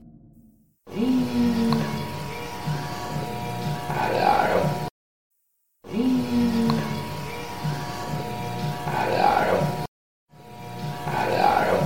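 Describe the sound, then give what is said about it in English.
A short EVP snippet of a faint, muffled, groan-like voice over steady hum and hiss, played three times in a row with brief silences between repeats. “Now, before we move forward, let's hear that EVP a couple more times.”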